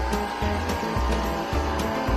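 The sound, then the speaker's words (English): A dense, steady drone of honey bees buzzing in a hive of about 30,000 to 40,000 bees that is being opened for the honey harvest, a continuous low hum with a rough, noisy texture that holds at an even loudness throughout, with no voices. “That's the bees.”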